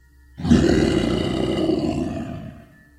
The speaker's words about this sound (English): That's when the string started to violently shake. An enormous roar made my eardrums ring.